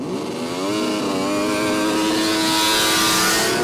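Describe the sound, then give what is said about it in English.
Snowmobiles in a race set off two by two up the Haines Highway, followed by an ambulance. A loud, buzzing whine climbs steadily in pitch as they accelerate and holds strong for several seconds, with no voices. “With duct tape on their faces to protect against the wind chill and an ambulance following behind, the snow machiners were off, two by two.”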